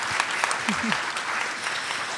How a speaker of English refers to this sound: I'm sorry that we did not get to all of them, but can we please give our panel a round of applause? Thank you.